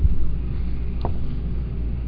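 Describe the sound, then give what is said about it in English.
A steady, low air-conditioning hum drones through the apartment building, a constant rumble with no pauses and one faint, brief blip partway through. “That noise in the background you hear, that is the air conditioning in my apartment building.”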